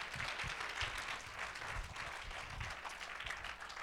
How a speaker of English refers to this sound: Come on, clap your hands and bless God.